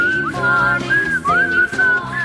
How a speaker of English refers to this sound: I'll let you whistle. I think I'm terrible at whistling.